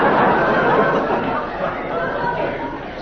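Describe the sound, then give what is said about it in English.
A crowd of onlookers chattering on a weekday, a steady, dense murmur of many overlapping voices with no single words standing out, holding at a fairly even level throughout. “You're drawing a hell of a crowd for a weekday.”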